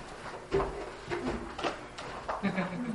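A chair is shifted and swapped, making a series of short wooden clunks and scrapes spread across a few seconds, fairly loud.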